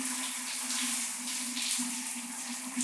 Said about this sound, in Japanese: おー、すごい。シャワーをかけたらさらにパチパチしてますね。